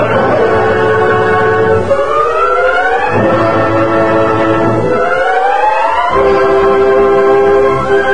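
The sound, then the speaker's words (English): A loud, sustained steam train whistle blows almost continuously, its rich, reedy tone sliding upward in pitch a few times between long steady notes, with no one talking. “Hey, Thunder, we all heard that train whistle.”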